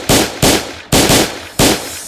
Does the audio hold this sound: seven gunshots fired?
yes